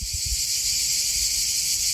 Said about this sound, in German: Andererseits, so Sommer in Albanien, das hat schon auch was mit flirrender Luft und Zikaden, die in kniehohen Sommerwiesen zirpen. Ich habe das sogar aufgenommen, hör mal.